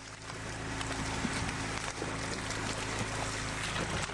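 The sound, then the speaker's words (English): A steady boat-motor drone with a low hum fills the scene on the Illinois River, broken by scattered, brief splashes and thumps of leaping flying Asian carp. No voices are heard. “Now, well, I'm afraid it sounds like the sound of the flying variety of species of the Asian carp.”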